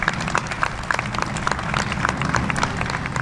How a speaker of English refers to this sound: So please, a round of applause for everyone who's brought this project to fruition.